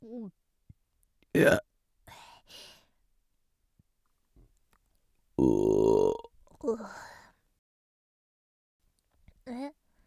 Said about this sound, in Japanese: なんでゲップするのかって？しないと気持ち悪くなっちゃうんだよね。すっきりした。